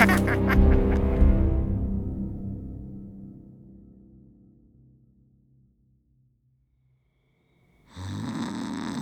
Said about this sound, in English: Like I could sleep with … making all that noise. That boy can snore through a hurricane.